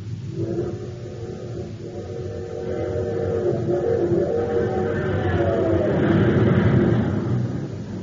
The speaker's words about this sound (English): But now listen to that same train with super fuel in its tank.